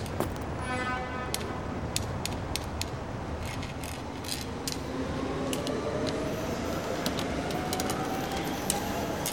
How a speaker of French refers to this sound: En tout cas, déjà, il y a le métro en dessous.